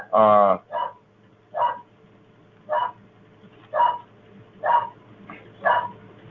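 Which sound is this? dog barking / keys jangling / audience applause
dog barking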